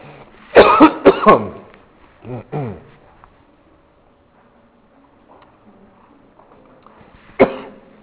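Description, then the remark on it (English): A burst of harsh coughing, followed by a softer throat clear and a final sharp cough after a quiet stretch. “I need that cough drop.”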